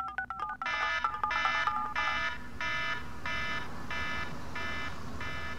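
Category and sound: signal or alarm, phone alarm ringing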